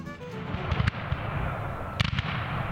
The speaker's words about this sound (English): The loud booming of cannon fire rips through the North Florida pine forest 15 miles east of Lake City as startled cavalry horses whinny.